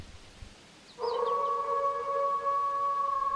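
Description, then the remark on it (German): A wolf howls once in a forest, a long steady note that begins after a brief hush and holds at an even pitch, loud, with no voices around it. “Im Wald traf sie auf den großen, bösen Wolf.”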